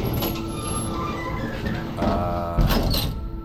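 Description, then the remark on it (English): Doors of an elevator that had not moved since the 1960s slide shut with a rumbling mechanical glide, ending in a firmer thump and a brief rattle, over a steady low hum and faint high whine. “The doors close. Control panel lights up. This elevator that hasn't budged since the 60s is on the move.”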